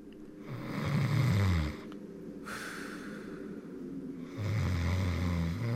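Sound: man snoring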